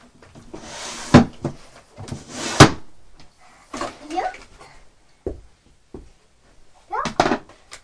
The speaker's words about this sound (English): Oh, I'm sorry. I didn't mean to. I was just trying to open the door. I didn't know your foot was there.